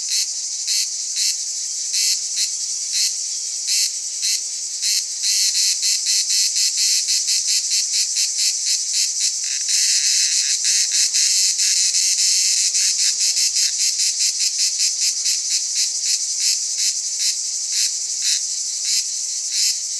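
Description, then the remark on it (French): Cicadas shrill loudly and continuously, a dense high-pitched buzzing pulsing in rapid rhythmic bursts, intense throughout, swelling slightly midway, with no voices. “Et en fait, de silence, c'était les hurlements des cigales.”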